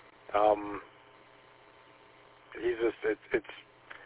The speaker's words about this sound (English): It's a lot of static and interference, so I don't know if it's too close, and it's like right at the peak of the barn, so it's surrounded by all metal.